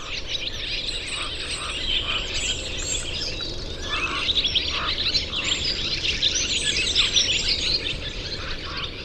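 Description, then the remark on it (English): Dozens of swallows twitter and chatter together on a power wire, gathered on their journey south, in a dense, continuous chorus of overlapping high chirps, fairly loud, with no voices. “As he watched, other birds began arriving out of the west until dozens of twittering swallows had assembled at this stage on their journey south.”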